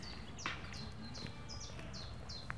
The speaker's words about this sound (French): Tiens, un oiseau, je croyais qu'on peut l'entendre. C'est là-bas, on va partir, les enfants. Vas-y, j'entends comme un corbeau.